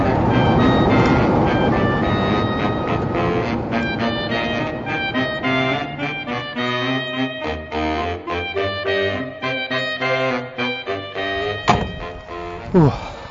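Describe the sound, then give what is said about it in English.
A Class 47 diesel locomotive rumbles loudly in the railway sidings of the Yilin Valley Railway in cold, heavy rain, its engine throbbing with a dense, tonal drone that wavers in intensity, with a couple of sharp metallic thunks near the end. “And right next to me is this Class 47 locomotive, which at one time pulled the Royal Train.”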